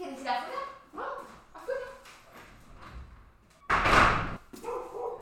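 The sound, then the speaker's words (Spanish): A person talks, then a female dog that wants to go outside lets out one loud, sharp bark, followed by more talking. “Bueno, mi perra quería ir afuera.”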